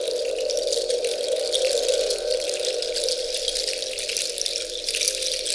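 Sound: rain falling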